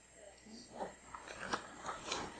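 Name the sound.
flipping through book pages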